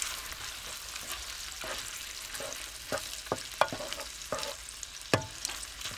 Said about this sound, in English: So while the chicken's getting cooked